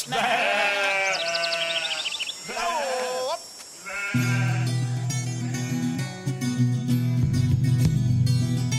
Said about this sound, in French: les moutons